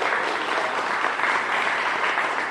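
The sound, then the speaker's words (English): A crowd applauds steadily for musicians being introduced, a dense wash of hands filling the whole stretch at an even, fairly loud level, with no voices breaking through. “Go ahead, applaud if you want for these folks.”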